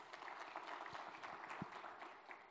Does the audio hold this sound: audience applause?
yes